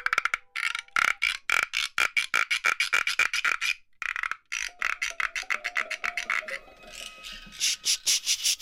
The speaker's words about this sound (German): Cricket Rattle. Das ist wie so ein kleines Töpfchen mit einem Fell draufgespannt und von dem Fell geht eine Plastikschnur weg und die dreht man dann um einen Holzstab und dann scharrt das so fast wie eine Mischung aus Frosch und Zikade.